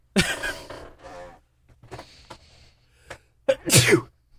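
Loud, close sneezes burst out, one right at the start and another forceful one near the end, with quieter breathy, shuffling noises in between.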